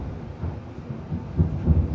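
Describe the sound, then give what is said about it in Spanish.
Low, rolling thunder rumbles steadily, swelling slightly in a couple of deeper surges toward the end, with no voices over it. “Bonito ese trueno de fondo ahí, ¿eh?”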